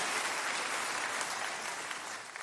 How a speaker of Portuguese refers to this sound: Você aplaudiu o Senhor, então pode aplaudir. Aplaude o Senhor, em nome de Jesus. Amém.